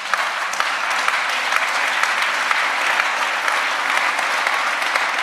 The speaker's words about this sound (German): Bitte klatscht nicht so viel, das geht mir alles von der Zeit weg, ich habe ein bisschen Druck.